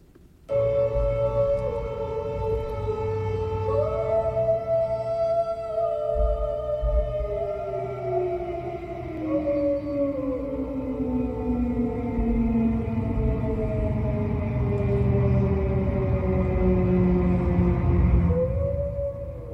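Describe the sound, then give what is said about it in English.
A loud, continuous wail from a German E57 air raid siren, rated 101 decibels at 30 meters, heard in a bedroom, with rich harmonic tones that slowly rise and fall in pitch, sustained for the whole stretch without any voices. “IRL, the same sound sirens simultaneously into my bedroom. German E57, 101 decibels on 30 meters.”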